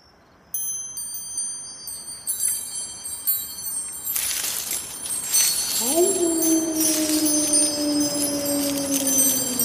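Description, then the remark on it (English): Wind chimes ring with high, shimmering tones that overlap and linger, growing busier partway through, while a steady low humming tone slides in underneath toward the end. “Oh, listen to those wind chimes.”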